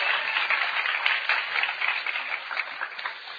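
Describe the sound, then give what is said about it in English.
A crowd applauds steadily, dense hand clapping from many people blending into a continuous wash of sound that holds at an even level throughout without pause. “Let's give her a hand clap on the Lord.”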